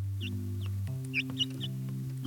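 A newborn chick, just hatched very early in the morning from an egg kept on a cushion in a box on a farm, peeps softly in a string of about seven short, high chirps at an uneven pace, over a steady low humming drone in the background.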